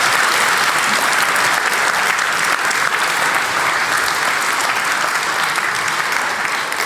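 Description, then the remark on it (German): An audience at the GPN event claps steadily and loudly for the content team for several seconds, a dense, even wash of many hands with no pauses and no one speaking over it. “Applaus für das Content-Team bitte.”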